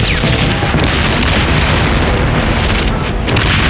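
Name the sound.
dynamite explosion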